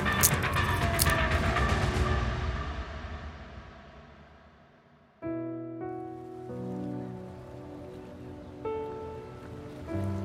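Soft waves wash and lap at a harbor, a steady watery hiss that slowly fades over several seconds before music cuts in abruptly and carries on to the end.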